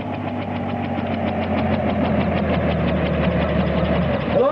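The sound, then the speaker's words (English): A large helicopter comes down to land: a loud, steady engine roar with a low drone and rapid, even rotor thumping throughout, with no voices. “Oh, that's some big helicopter.”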